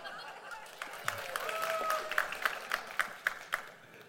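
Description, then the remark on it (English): Thin, scattered applause from a small audience at a sermon, with a few hands clapping unevenly before settling into sparse, distinct claps near the end, fairly quiet. “That was such a half-hearted clap, everybody.”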